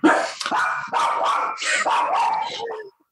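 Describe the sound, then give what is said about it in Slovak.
A dog present with the speakers barks repeatedly, a run of five or six loud, yappy barks in quick succession that stop abruptly just before the end. “A ešte tu máme aj psa.”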